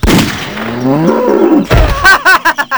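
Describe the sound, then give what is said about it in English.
A cow lets out a long, low, wavering moo, then a sharp gunshot bang cuts in as a hunter shoots the cow, mistaking it for a deer, followed by a rapid series of short, choppy bellows. “You shot a cow.”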